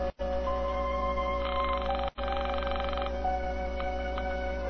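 A telephone ringing tone sounds over the line after dialing, on a call meant for the El Paso police, a steady electronic buzz with one brighter, louder stretch in the middle and two brief cut-outs, with no one speaking.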